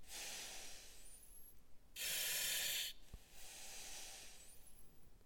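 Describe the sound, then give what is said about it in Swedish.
A breathing mask hisses in soft airy pulses: a gentle inhale-like rush, a louder burst of hissing lasting about a second, then another quieter hiss, with no talking. “Det var pysljudet från andningsmasken.”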